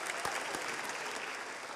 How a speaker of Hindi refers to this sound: Letterman भी तालियां बजाने लगते हैं।